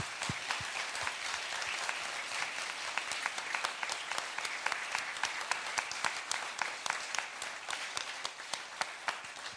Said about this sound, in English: Join me in a round of applause just to say thank you to you.